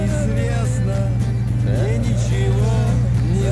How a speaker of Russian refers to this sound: Ехал по ночной дороге таксист.